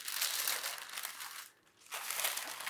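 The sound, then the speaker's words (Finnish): Loud crinkling of baking paper being peeled off the top of dough, a dense crackly rustle that pauses briefly midway and then resumes, with no voices. “Nytte mä otan pois tästä tämän päällimmäisen paperin. Hirveä rutina kuuluu.”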